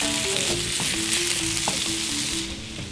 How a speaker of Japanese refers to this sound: はい、鶏の美味しい油がたっぷりと出たところに乱切りにした大根が入ります。大根が鶏の油を吸ってツヤツヤ。 そうですね、でこの状態で炒めて約3分ほど、ちょっとじっくり炒めますよ。